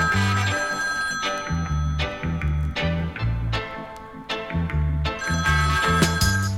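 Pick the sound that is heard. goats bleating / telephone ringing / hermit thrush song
telephone ringing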